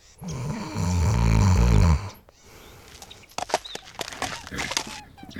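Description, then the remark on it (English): A person imitates a snore: one loud, rumbling, drawn-out inhale lasting about two seconds, followed by a quieter, breathy exhale with some fluttering. “A verb similar to snorting is snoring. It means to breathe in and out in a noisy way while you are sleeping.”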